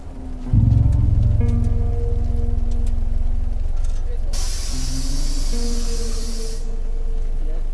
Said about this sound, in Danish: Det er morgen i Brastrup, og det regner.